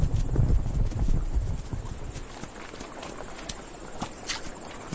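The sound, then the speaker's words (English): Horse hooves clip-clop at a steady walking pace, with some low rumble and outdoor noise beneath, easing slightly softer after the first couple of seconds. “Meanwhile, increasing numbers of the tame horses escaped into the wild.”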